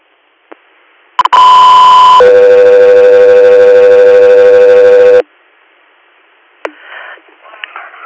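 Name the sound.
radio dispatch alert tone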